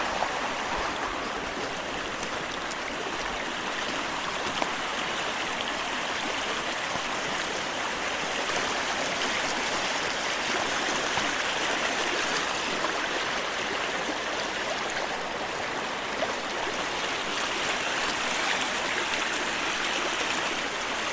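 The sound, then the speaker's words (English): Steady rushing of a flowing creek with many small waterfalls splashing over rocks, with some ice in the creek, a continuous bright, even wash of water noise with no voices. “Many, many waterfalls.”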